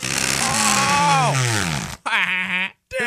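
Loud, buzzy fart sound effects: a long sputtering blast whose pitch wobbles and slides downward, then two shorter raspy bursts after brief breaks.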